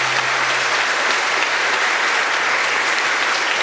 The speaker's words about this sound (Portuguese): Palavra da salvação. Glória a Deus, Senhor. Vamos aplaudir bem forte a palavra de Deus.